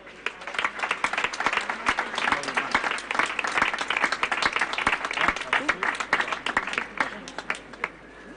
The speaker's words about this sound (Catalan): Anem amb l'altre reconeixement, que serà, com bé comentàvem, al Club Atlètic Roda de Berà. També un aplaudiment per ells.